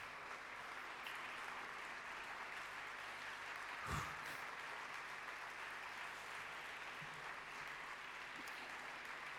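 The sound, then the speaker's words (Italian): A crowd applauds steadily, a dense, even wash of clapping filling the whole stretch with no pauses, with a single sharper thump partway through. “Grazie molte, questo applauso lo capisco per la patria.”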